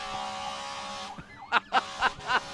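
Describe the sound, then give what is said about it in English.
An electronic siren sound effect wails with a steady tone that bends into sliding pitch sweeps, then breaks into four quick, loud, evenly spaced pulsing blasts. “Well, you know, speaking of Aguayo, we hear the sirens every in the background.”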